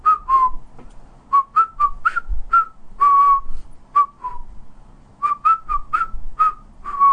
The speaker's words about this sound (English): I stuffed my hands in my pockets, in the pockets of my cowboy jeans, and whistled.